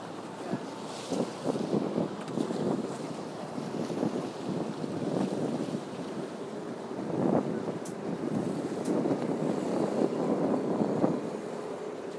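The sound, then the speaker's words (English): Boats passing on open water, with a steady rumbling wash, wind buffeting the microphone and waves slapping, continuous for the whole stretch. “Boats.”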